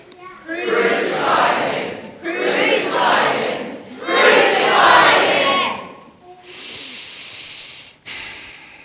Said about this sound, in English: Well, let's go back to the scene. The crowd was shouting loudly.